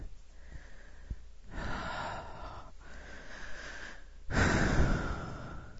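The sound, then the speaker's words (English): Heavy breathing from two people catching their breath: three long, airy breaths follow a quiet start, each rising and fading, the last one the loudest. No talking. “We're both breathing fairly heavily.”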